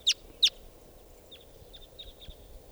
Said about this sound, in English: This is that female. Other wild crossbills coming in here.